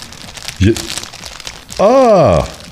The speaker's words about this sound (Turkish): Şimdi ben bu ara yangın sesi yapayım mı?